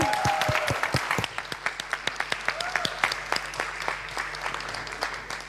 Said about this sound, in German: Jetzt könnt ihr nochmal einmal wirklich Applaus machen, also Trommelwirbel, denn ich schalte jetzt frei.